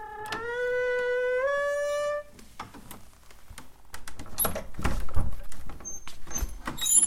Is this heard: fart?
no